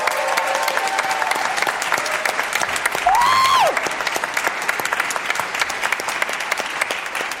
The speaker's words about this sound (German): Aber was mich besonders freut, wir haben hier heute einen Live-Pianisten, nämlich Benjamin Nuss. Fett Applaus für den lieben Benjamin.